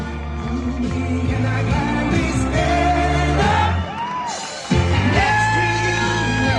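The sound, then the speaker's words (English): A huge, high-energy crowd at an open public rally in front of a lake roars steadily, with overlapping yells, whoops and shouts rising above a dense, loud wall of cheering that briefly dips before surging again. “So huge crowd, high energy, massive crowd.”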